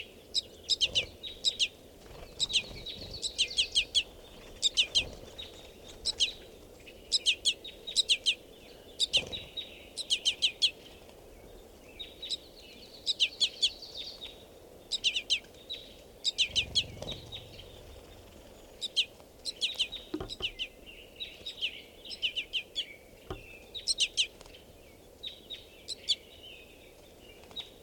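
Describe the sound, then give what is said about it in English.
A crossbill chick begs from a male crossbill with insistent, high-pitched chirps repeated in rapid bursts throughout, fairly loud over a soft background hum; the male is not calling. No talking. Netted birds are being recorded, with about 40 crossbills present. “Additionally, there's a baby begging from a male directly here.”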